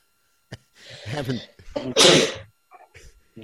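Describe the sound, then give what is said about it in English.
A single loud sneeze bursts out around the middle, preceded by a sharp intake of breath, with a few short murmured sounds trailing after it. “Bless you.”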